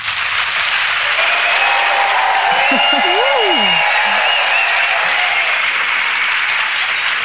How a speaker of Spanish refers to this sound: y para que no penséis que exagero, voy a pedirles un aplauso para mis invitados al podcast de hoy, con los que vamos a aprender muchísimo sobre dermocosmética para hombre y mujer. Así que a ver cómo suena ese aplauso, Madrid.